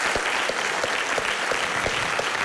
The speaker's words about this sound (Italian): un applauso.